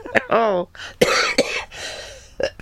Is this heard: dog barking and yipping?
no